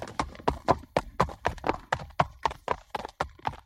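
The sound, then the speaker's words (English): Steady rhythmic clip-clop of horse hooves from horse riding, about four strikes per second, sharp on a hard surface, continuing evenly with no voices. “That's right, it's horse riding.”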